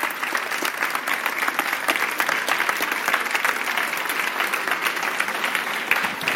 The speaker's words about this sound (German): vor allem einmal ein ganz, ganz kräftiger 100.000 Stufen Applaus für unsere Lesescouts